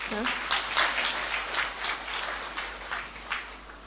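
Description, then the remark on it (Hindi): An audience at Baba's Madhuban home claps steadily in welcome for about four seconds, a dense, crackling wash of many hands with small swells in loudness and no clear gaps. “ताली बजाएंगे।”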